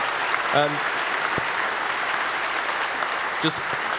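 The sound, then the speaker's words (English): A large audience claps steadily after a talk, a dense, even wash of applause lasting several seconds, with a couple of brief voices rising faintly through it. “Yeah, give a huge round of applause for this awesome talk, please.”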